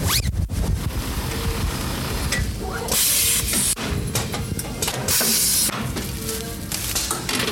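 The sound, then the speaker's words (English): Steady mechanical clatter and whirring of a steam tunnel used to press students' gowns at Notre Dame, broken by two loud bursts of hissing steam, each lasting under a second, with no voices. “We pulled them out, identified the gown for each student, and then we brought them back here, pulled them out of there, throw them through the steam tunnel, hand press them.”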